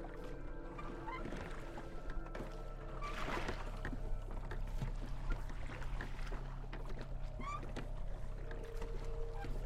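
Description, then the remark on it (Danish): A rowboat rocking badly in the wind on a lake in late summer 2010, with water sloshing and lapping against the hull over a steady low rumble of wind. A few goose honks and bird calls cut through now and then. “En dag i sensommeren 2010 tog Pekka Yushi med ud på en robåd på søen.”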